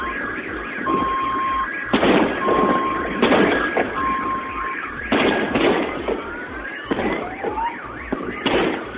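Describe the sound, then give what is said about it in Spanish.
A series of loud, sharp booms from a meteorite exploding over the Urals in Russia rumble out one after another, while several car alarms set off by the blasts keep wailing and beeping steadily underneath. “Así sonaba ese meteorito.”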